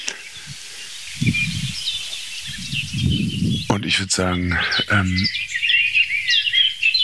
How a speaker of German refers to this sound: Also es ist nichts Heftiges zu hören. Es gab jetzt ein paar, ich würde mal sagen, Warnrufe kann man die noch nicht mal nennen. Ein paar Schimpfer von der Singdrossel.